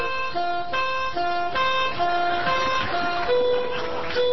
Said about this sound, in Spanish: Les queda poco tiempo porque escucho una sirena. Uy. No es una sirena. Pero es un patrullero. Pero es un patrullero, me parece.